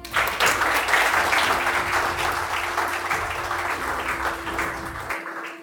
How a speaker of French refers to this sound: D'abord, je pense au grand bonheur des familles. Et on peut les applaudir.